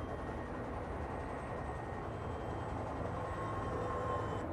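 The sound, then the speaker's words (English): A steady, continuous roar of airplane engines, loud and unbroken throughout, with a broad rushing rumble and faint whining tones riding on top, no voices present. “Your Abbas must be flying in one of those planes.”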